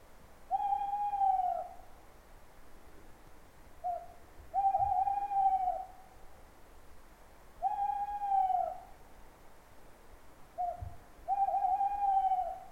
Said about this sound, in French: Dehors, on entend un hibou.